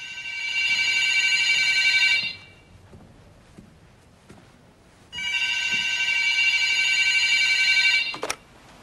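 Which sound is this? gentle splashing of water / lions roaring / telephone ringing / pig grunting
telephone ringing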